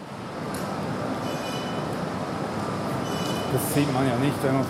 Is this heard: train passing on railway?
yes